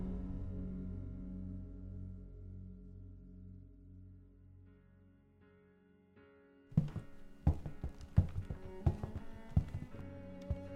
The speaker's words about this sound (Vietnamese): Có tiếng bước chân.